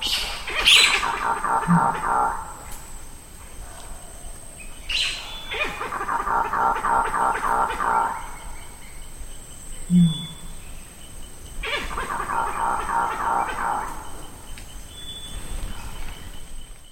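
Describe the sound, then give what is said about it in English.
Monkeys react to a tree falling in the forest with a sequence of three loud, harmonic calls. Each call lasts a few seconds with a sharp rising onset, separated by short pauses, over a steady high-pitched insect-like hum. “And that was recorded when the monkeys were reacting to a tree falling in the forest.”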